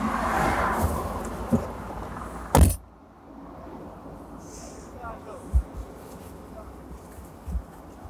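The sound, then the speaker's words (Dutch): Steady road rumble inside a car, then a sharp clunk as a car door opens, followed by quieter surroundings with a few soft knocks and rustles of someone climbing out. “Ik kom even uit de auto.”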